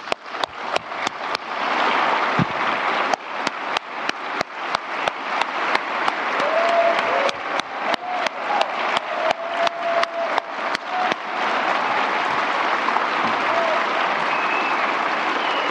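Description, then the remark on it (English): An audience at an ICANN community meeting applauds the Vice President for organizing the meeting, steadily for about fifteen seconds, a dense, sustained patter of many hands clapping at an even volume, with a few sharper individual claps standing out. “For your tireless work in organizing this meeting, for your years of participating actively in the ICANN community, and being an example, let's express our gratitude and hard work by giving a round of applause to our Vice President,”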